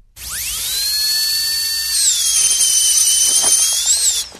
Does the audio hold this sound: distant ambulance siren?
no